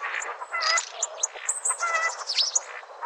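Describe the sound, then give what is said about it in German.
A starling sings a busy, continuous medley of shrill whistles, rapid chirps, rasping notes and sliding calls mimicking other birds such as buzzards, woodpeckers or a chicken, fairly loud with no voices; a rare recording made by ornithologist Professor Hans-Heiner Bergmann. “Stare können zum Beispiel die Rufe von Bussarden oder Spechten nachmachen oder auch mal ein Huhn.”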